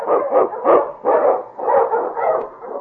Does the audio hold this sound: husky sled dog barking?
yes